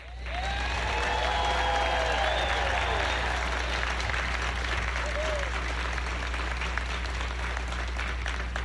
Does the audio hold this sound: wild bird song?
no